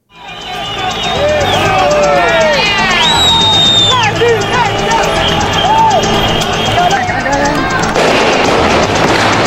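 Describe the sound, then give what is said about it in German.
A loud, chaotic protest scene in Venezuela: many voices shouting and chanting protest calls, rising high-pitched screams, and sharp cracks of gunfire mixed into the continuous roar, with a loud bang near the end. “Protestrufe, Schüsse, Schreie und irgendwo ein lauter Knall.”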